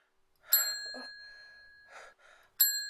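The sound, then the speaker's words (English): A bright bell rings twice, each strike sharp and ringing on with a sustained metallic tone, with soft breathy gasps in the pause between the two rings. “Simply hearing that bell ring, it pushed me over the edge.”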